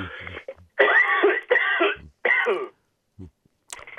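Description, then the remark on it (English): A person coughs and clears their throat several times in quick succession, loud, with harsh rasping bursts separated by short pauses. “Sorry, I've got a cough.”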